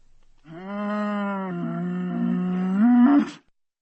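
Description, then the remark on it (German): A single long, deep bellow from a cow standing in muddy floodwater among willow trees by a swollen river, droning steadily for about three seconds before rising and swelling louder at the end, then cutting off. No voices accompany it. “Da hörte ich mit einem Mal von irgendwoher eine Kuh brüllen.”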